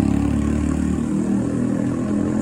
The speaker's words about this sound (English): I got a couple of cars, a motorcycle. A lot of motorcycles. And they're fucking loud.